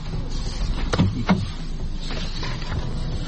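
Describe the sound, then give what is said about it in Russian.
A door is blocked shut with two quick mechanical clunks about a third of a second apart against a steady, muffled background rumble. “Оп, дверь заблокировала.”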